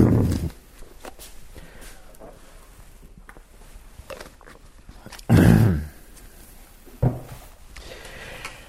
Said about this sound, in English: Let me get my water. I can't quit coughing here.